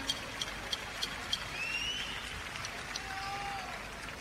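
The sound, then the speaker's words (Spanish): A crowd at Cosquín applauding steadily, a dense wash of clapping with a few sharp claps standing out early and a couple of high whistles cutting through, at a moderate, even level without speech. “Aplauso para mi Yuyo.”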